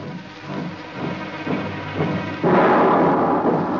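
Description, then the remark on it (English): Heavy German artillery shells Paris, France, in early spring 1915 during the World War, booming in a steady series of low, rumbling blasts, swelling into a louder, sustained thundering roar near the end. No voices are heard. “German guns shower Paris with destruction.”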